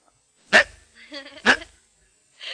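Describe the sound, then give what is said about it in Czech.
A person's voice mimics a startled roe deer's alarm bark: two loud, harsh barks about a second apart with a throaty grunt between them, then a softer, breathy bark trailing off. “Lekne se, už jste někde viděl, jak se lekne srnec, jo?”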